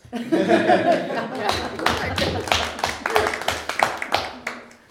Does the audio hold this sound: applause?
yes